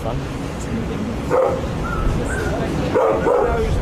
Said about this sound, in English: And you may just be able to hear there's a dog barking, which is made them halt temporarily.